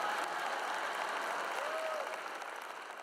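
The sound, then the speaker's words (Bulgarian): An audience applauds steadily, a dense wash of many hands clapping that holds for about three seconds and begins to thin slightly toward the end. “Обичам тези аплодисменти от съжаление.”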